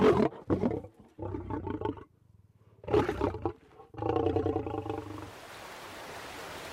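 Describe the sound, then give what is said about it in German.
A lion roars loudly in a series of deep, rumbling bursts with short pauses between them, fading into a soft, breathy hiss at the end, in a national park in Namibia. “In manchen Nationalparks leben sogar Löwen.”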